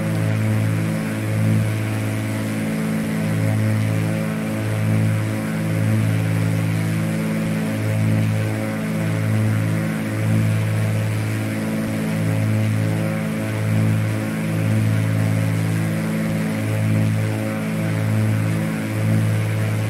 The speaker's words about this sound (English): The engine sounds just a bit weird.